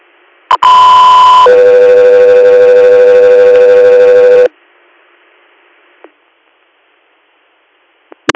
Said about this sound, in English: Echo 3 Air, stand by for tones.